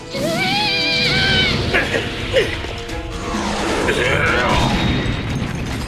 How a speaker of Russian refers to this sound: Этот парень Таркус врезался в каменную стену с такой высоты.